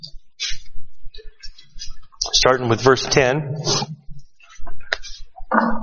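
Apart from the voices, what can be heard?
bible pages turning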